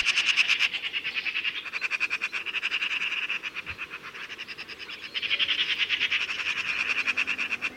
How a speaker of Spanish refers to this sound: Y a la derecha, un ruidoso grupo de urracas, chillando sin parar y persiguiéndose unas a otras, también esperan a que acaben su festín las grandes aves carroñeras.